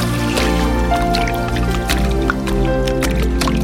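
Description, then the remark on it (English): Water drips and trickles in scattered, irregular plinks over a steady, sustained musical drone, with the liquid sounds partly blended into the continuous tones. “Sounds of many waters.”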